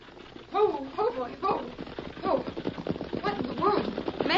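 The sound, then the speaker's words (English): Horse hooves clip-clop in a steady rhythm as a wagon draws closer, with rattling and knocking mixed in and indistinct voices faintly audible over the approach. “It's a horse and wagon.”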